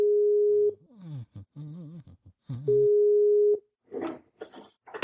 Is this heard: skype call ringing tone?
yes